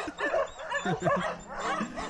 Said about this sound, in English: Notice one dog start barking. They sound hurt.